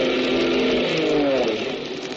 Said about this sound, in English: Look. A plane. It's coming this way. They see us. It's an army plane.